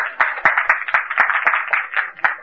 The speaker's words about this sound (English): A lot of applause here.